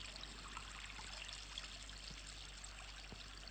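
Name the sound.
water trickling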